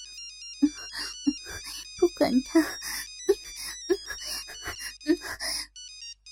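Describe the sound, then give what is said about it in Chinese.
A telephone ringtone trills insistently, a steady high electronic melody repeating throughout while someone speaks over the ringing. “一阵急促的电话声响起，惊动了这对已陷入肉欲中的男女。”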